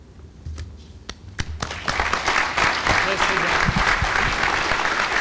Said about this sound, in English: Ladies and gentlemen, let your applause show our appreciation for a lucid and great informative lecture.